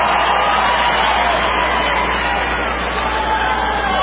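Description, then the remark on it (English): A large crowd roars and cheers steadily for several seconds, a loud, dense wash of voices with no break. “Of course, Bernie Sanders is going to cheer for that.”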